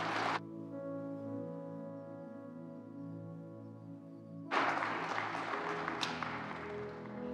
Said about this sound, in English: How about a round of applause for all of our mothers?